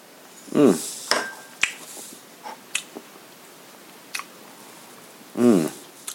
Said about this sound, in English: Hold on, let me get another sip of this.